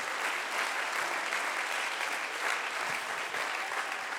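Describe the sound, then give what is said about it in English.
A church audience claps their hands in praise in a steady, dense wash of applause that stays loud and even for several seconds, with no voices standing out. “Come on, let's clap our hands and praise him right now.”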